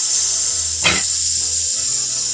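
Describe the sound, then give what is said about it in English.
A steady, loud hiss of escaping air, like a leaking tire, runs the whole time, with a brief sharper burst partway through and a low hum underneath. “We got a leaky tire.”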